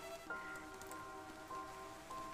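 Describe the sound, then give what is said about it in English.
Steady rain, turned from drizzle, falls continuously in a city centre at almost midnight with a soft, even hiss, spattering on a surface, with faint sustained tones humming underneath and no voices. “As the drizzle turned to a steady rain, I realized my foolishness.”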